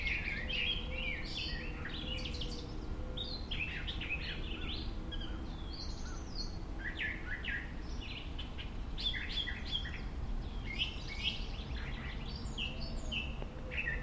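birds chirping

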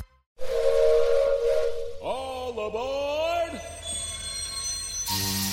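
steam train whistle

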